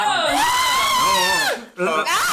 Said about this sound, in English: You sink further into the quicksand. What am I doing to get out of it? I scream a blood-curdling scream.